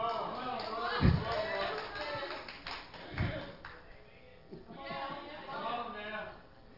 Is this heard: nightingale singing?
no